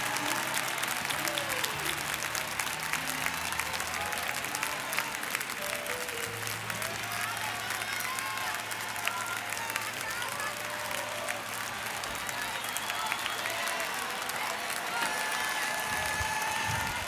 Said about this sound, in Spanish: Antes de sentarse, ¿por qué no les damos un aplauso al Señor?